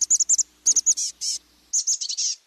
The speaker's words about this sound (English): Now listen to the chestnut-backed call. It's higher pitched, faster, and has a buzzy quality.